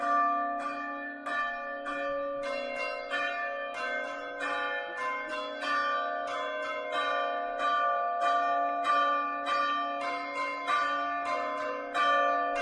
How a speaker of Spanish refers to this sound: Antes de nada, vamos a escuchar cómo suenan esas campanas en caso de que superen esos 35 grados con esta pieza, con este toque que ha compuesto Rosalina. Así suena.